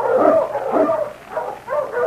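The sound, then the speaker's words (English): King, the husky sled dog of the Mountie Sergeant Preston, barks and yips excitedly in a quick series of about four loud barks, with a whiny edge and no voices, as he is urged on with the mail sled. “On, you husky!”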